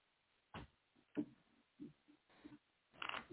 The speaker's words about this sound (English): She's just shuffling the cards, but she can listen.